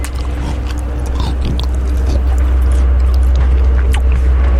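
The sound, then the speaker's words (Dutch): Crunchy biting followed by steady chewing of a chocolate chip cookie, with crumbly crackles over a low, constant background hum and no talking. “Een beetje zo'n chocolate chip.”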